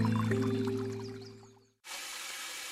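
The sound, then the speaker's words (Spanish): A low droning hum fades away, then after a brief silence a tap suddenly runs with a steady, hissing rush of water as someone wastes water, continuing to the end. “Este eres tú gastando agua.”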